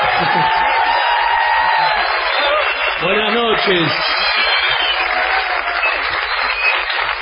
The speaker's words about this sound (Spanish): Muchas gracias a todos, ¿eh? Vamos, ya que estamos aquí, a prodigarle a Patricio Barton una ovación desmesurada.